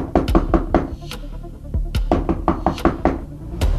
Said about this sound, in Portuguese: É quando de repente bateram na porta.